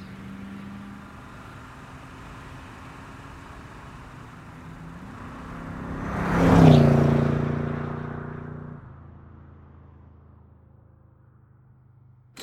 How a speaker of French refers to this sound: Au milieu de la nuit, elle quitta le parking de l'hôpital au volant de sa Triumph, rentrant chez elle à vive allure par les rues désertes. Je suis trop fatiguée et je roule trop vite.